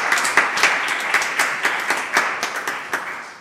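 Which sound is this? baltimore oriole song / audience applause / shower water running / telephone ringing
audience applause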